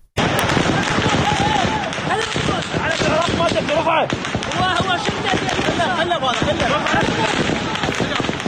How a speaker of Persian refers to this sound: نیروهای امنیتی در نهایت با تیراندازی هوایی توانستند معترضان را وادار به عقب نشینی کنند.